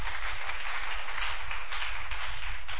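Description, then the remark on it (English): A church audience in Ghana claps together during a sermon in a dense, steady burst of applause, many hands blending into a continuous bright patter that holds at an even loudness throughout. “Clap your two hands if you understand.”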